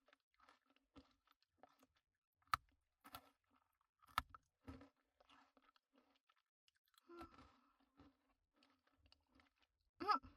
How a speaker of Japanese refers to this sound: ポリポリいい音が鳴るの、すっごく好き。